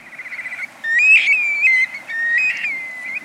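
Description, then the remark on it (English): A young black-bellied plover, hatched in the Arctic National Wildlife Refuge and about to make its first migratory flight, calls with clear, high whistles: a quick run of short pulsing notes, then long, plaintive slurred whistles that rise and dip in pitch, with no voices present. “This young black-bellied plover is about to make its first migratory flight.”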